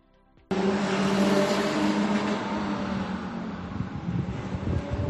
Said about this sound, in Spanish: Un coche a toda velocidad por los Rosales hacía trompos y giraba la rotonda. Según un vecino, no era la primera vez que pasaba esto.